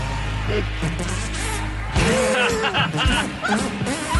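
A steady low buzz gives way to a run of wet, squelchy hand-fart noises made by a kid in quick rhythmic bursts, rising and falling in pitch as he squeezes out a tune, fairly loud.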